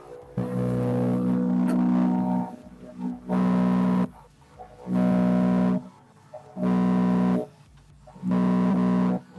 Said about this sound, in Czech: Mocné burácení motoru je snad jediné to, co je slyšet z cíle rychlostní zkoušky. Tak doufejme, že diváci si z toho něco odnesou. Tak samozřejmě jsme na motoristickém sportu, tak je slyšet, že ty motory nám tady opravdu vrčí velmi výrazně